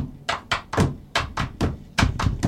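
A rhythmic psychomotor exercise played with the non-dominant hand: sharp taps on a tabletop, alternating brighter, higher clicks of a pencil with duller, deeper thumps from a bare hand, about eight strikes in a steady groove with no talking.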